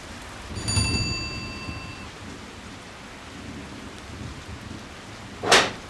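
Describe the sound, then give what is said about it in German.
Heavy rain pours down steadily from start to finish. A low rumble of thunder rolls in early, and a sharp, loud crack bursts out near the end. “Es regnet. Du bist schon ganz nass.”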